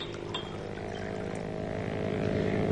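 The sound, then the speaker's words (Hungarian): A motorboat engine drones steadily on the lake, where someone is water-skiing: a low buzzing hum with layered harmonic tones that grows gradually louder over a few seconds, with no voices. “A felesége Mrs. Wade motorcsónakon érkezik? Nem hiszem. Valaki vizisízik a tavon.”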